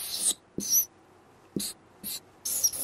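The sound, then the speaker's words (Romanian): A pen scratches across paper while drawing a house, in five short, bright bursts of scribbling separated by brief pauses, each stroke hissy and quick, with no voices present. “Ca să înțelegeți mai bine, eu desenez o casă așa.”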